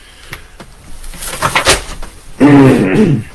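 A few short, breathy coughs build up, followed by a louder, drawn-out voiced throat clearing with a low, buzzing rasp lasting nearly a second.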